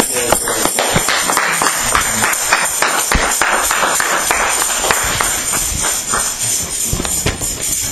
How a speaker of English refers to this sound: With a hand clap to the Lord, let's usher him to the front.